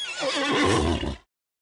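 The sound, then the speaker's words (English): A horse whinnies loudly, one shrill, wavering neigh lasting just over a second before cutting off abruptly into silence. “grabbed a needle and thread and the tapestry, then jumped on her horse.”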